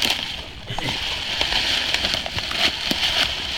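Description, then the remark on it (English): Steady, dense crunching and rustling of dry leaves as a deer is dragged through them, a continuous hiss broken by sharper crackles at irregular moments, with no voices. “A lot of leaf crunching.”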